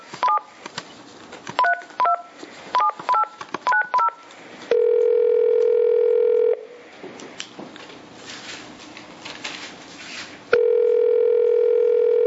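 A telephone keypad being dialed: seven short two-note beeps in quick clusters, followed by a loud, steady electronic phone tone that stops, then returns after a stretch of soft background noise.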